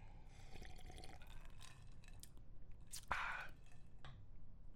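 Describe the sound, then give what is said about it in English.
A quiet sip of an amaretto and peated whisky cocktail followed by soft mouth and swallowing sounds, with a brief wet slurp in the middle and faint clinks, no talking. “I'll take a sip.”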